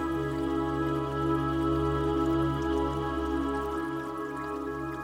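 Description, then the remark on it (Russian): Water of a small brook trickles and babbles steadily beneath a sustained, humming musical drone, with a soft, even flow and no voices throughout. “Вы спокойно смотрите на воду, слышите журчание воды.”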